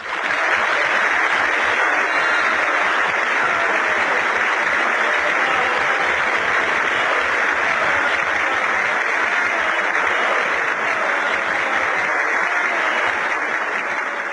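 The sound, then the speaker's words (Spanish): Sustained audience applause, a dense, steady wash of many hands clapping at an even loudness for the whole stretch, with no voices rising above it. “No que me aplaudan, pero sí que reconozcan la sinceridad de mis palabras.”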